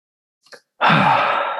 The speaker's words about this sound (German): atmet kurz in sein Mikro.